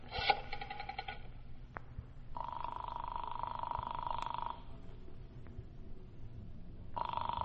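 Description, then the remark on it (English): A telephone is dialed to call a councilman, with a brief burst of clicks and buzzing, then a steady electronic ringing tone sounds twice in long buzzy bursts, fairly loud, with no talking. “First, I'm going to phone Councilman Marcy again.”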